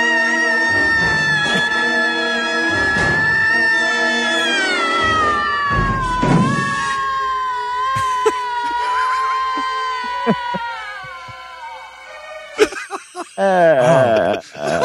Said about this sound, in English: Horrible scream.